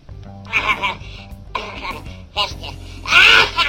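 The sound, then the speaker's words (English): A German man coughs in four harsh, raspy bursts spread over a few seconds after a long bout of laughing, the last one loudest, with a low steady hum underneath and no talking. “I mean, it just goes on and on and on until he starts coughing.”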